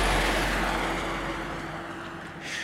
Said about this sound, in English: Somehow, oh, there's a truck.